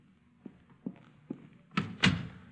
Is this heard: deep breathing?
no